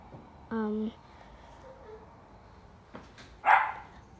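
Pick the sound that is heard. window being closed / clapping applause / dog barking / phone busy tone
dog barking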